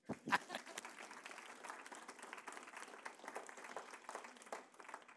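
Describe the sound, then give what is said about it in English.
An audience breaks into steady applause, many hands clapping in a dense, even patter that starts with a sharp burst and holds at a moderate level throughout. “Why don't you clap?”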